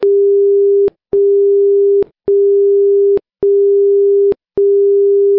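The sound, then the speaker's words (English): Five steady one-second station identification tones marking a station identification break in an amateur radio news broadcast, each a clean mid-pitched beep, separated by brief even gaps with small clicks at their edges, loud and alone with no talking. “As you may have heard in our break, there are 5 one-second tones that do two things in our broadcast.”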